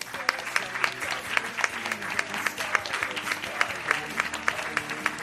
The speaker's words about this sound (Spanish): Así que gracias y también un aplauso para ellas.